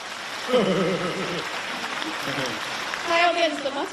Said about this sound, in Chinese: 鼓掌